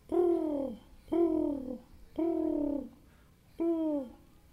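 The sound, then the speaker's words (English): Pigeons cooing by a hen house and chicken yard in four steady, evenly spaced calls, each a soft, low, rounded coo that swells and fades, with no talking. “Oftentimes, pigeons would find a way down to the hen house and the chicken yard.”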